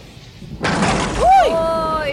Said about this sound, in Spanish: Estos son truenos, ¿no? Me encantan los días así. Truenos que están acompañados de relámpagos. Mirá así más fuerte todavía. ¡Uy, qué tormentón! Un tormentón impresionante.